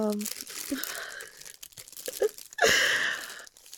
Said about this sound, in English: We're gonna shake the paper out to make sure we don't miss anything.